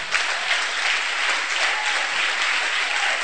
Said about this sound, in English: You can clap your hands.